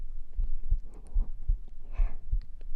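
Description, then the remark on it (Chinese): A muffled heartbeat thumps steadily and low, heard with an ear pressed against a chest during a hug, with faint fabric rustling and breathy noise in the background. “能听见我的心跳吗？”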